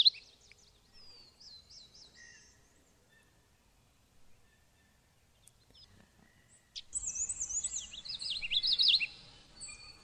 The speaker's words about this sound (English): Well, since you mentioned common yellowthroat, that's a New World warbler. Winters in Central America.